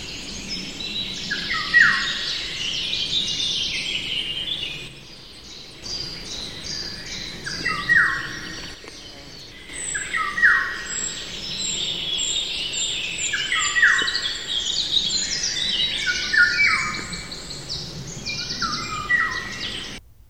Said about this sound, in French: Ah oui, mais là, c'est parce qu'on est rentré dans les bois qu'on l'entend un peu. Ça vous a l'air qu'il y a du loriot. Oui, le loriot, le bel oiseau d'or.